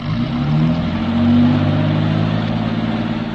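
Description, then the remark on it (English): A car engine runs steadily with a low, droning hum, its pitch rising and shifting slightly as the car rolls off under its own engine toward an edge. Loud, with no voices. “I want the engine to carry to the edge. If we push it, we'll leave footprints.”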